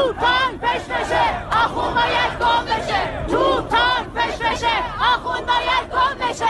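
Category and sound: crowd, protest crowd chanting slogans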